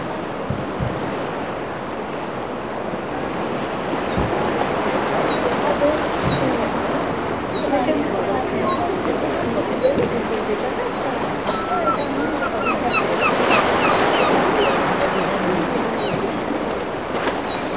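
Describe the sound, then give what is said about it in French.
A steady coastal wash of surf and wind on an island in Brittany, France, fills the air, a broad, continuous rushing that swells slightly midway, with faint high seabird chirps scattered through the background. “Le son panoramique de la Bretagne préservée.”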